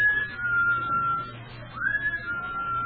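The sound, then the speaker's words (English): A long, steady whistled tone that briefly drops off, then slides back up and holds again, sounding somewhat muffled over a low constant hum. “It sounded as though it was in the cellar.”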